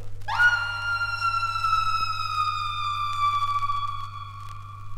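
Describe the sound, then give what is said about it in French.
An instrument lets out a loud, sustained wailing tone that cuts in sharply and slowly sags in pitch, like a drawn-out scream of horror, over a steady low hum. “Un cri d'horreur.”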